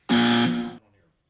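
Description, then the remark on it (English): A single loud, harsh buzzer blast on an ESPN Radio talk show during a caller segment, lasting under a second, its tone dipping slightly partway through before cutting off abruptly, leaving a faint fading tail. “That was the buzzer?”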